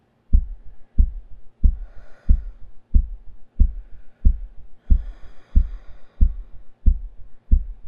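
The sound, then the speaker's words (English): A steady heartbeat thumps at a brisk, even pace, about a dozen deep muffled beats, with soft breathy rustling drifting in over it twice. “Let me hear your heartbeat.”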